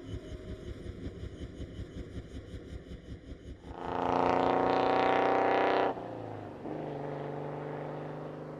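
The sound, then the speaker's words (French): A new car's engine idles with a steady pulsing throb, then revs up loudly as the car pulls away for a countryside drive on a fine Sunday, settling into a constant driving hum. No one speaks. “Votre nouvelle voiture, la petite promenade champêtre, le déjeuner sur l'herbe.”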